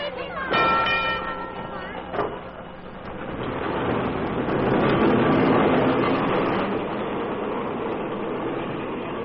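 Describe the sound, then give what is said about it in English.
The last streetcar of the night pulls away from the park with a brief ringing tone at the start, then a rolling, rattling rumble that builds steadily in loudness and holds as it moves off. “That's the last streetcar to leave the park tonight.”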